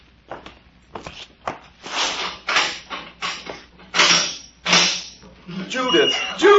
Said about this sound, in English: see that door over there? Yes. Here is the key to it. Unlock it.